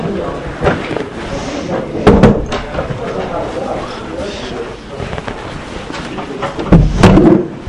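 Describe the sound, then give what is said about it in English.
A door is closed with a couple of sharp wooden thuds and a softer bump partway through, over low rustle and faint background voices. “We'll just close this door, is that right?”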